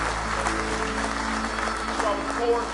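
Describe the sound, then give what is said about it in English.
An audience claps in praise of the Lord at a morning service, a steady, dense wash of many hands at a constant loudness, with voices and a faint held tone mixed underneath throughout. “Give him a hand clap of praise if you love him with all your heart this morning.”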